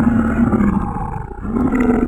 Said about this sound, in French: Mais là, on peut entendre au loin un grognement. Plus fort que le grognement des coyotes.